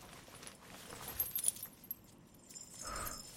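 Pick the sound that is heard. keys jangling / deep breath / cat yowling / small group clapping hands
keys jangling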